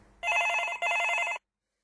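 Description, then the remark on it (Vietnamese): A telephone rings in a doctor's office in two close bursts of bright, trilling electronic tone, loud, then stops abruptly with silence after. “Có tiếng điện thoại vang lên trong phòng bác sĩ.”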